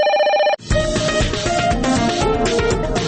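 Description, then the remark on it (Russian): A short burst of telephone ringing, bright, cut off after about half a second and followed at once by loud, busy music, opening a Radio Svoboda listener call-in segment. “Звонки на свободу.”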